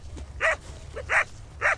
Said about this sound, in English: A couple of young sheepdogs stand watch.